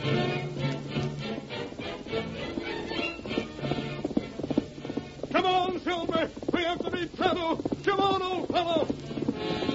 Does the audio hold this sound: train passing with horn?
no